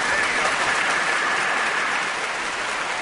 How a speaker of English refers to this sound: There we go. That round of applause, Sev, is for you.